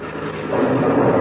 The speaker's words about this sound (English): Listen to that. Say, that's funny. It sounds like that blue wing plane is taking off.